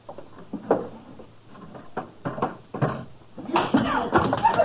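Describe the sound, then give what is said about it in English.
Several guns clunk and clatter into a wooden drawer, followed by scraping and the drawer sliding shut, with faint voices toward the end. “Throw them in a drawer”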